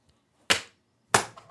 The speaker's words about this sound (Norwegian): Nå skal jeg rulle terningen, hør etter nå.